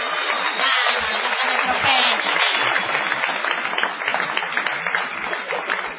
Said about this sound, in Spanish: No menos inmerecida será la ovación que dedicaremos a Gillespie.